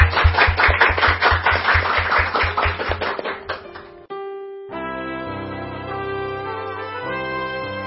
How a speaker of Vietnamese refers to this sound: Và bây giờ thì một tràng pháo tay thật lớn để chúng ta chào mừng những người bạn đến với chúng ta ngày hôm nay. Một tràng pháo tay thật to.